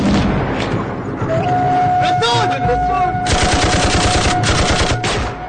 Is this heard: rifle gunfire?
yes